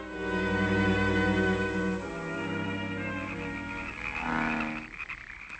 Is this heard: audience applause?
no